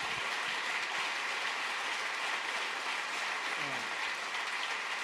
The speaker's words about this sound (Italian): Il bacio è un bacio delicato, vero, sincero, e questo applauso è anche il segno di dire continuiamo. Andiamo dobbiamo avanti. Continuare, dobbiamo continuare.